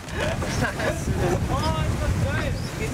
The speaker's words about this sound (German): Heute muss die Crew trotz beachtlichen Windes eine breite Meerpassage kreuzen.